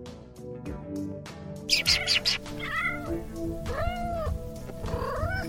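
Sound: kitten meowing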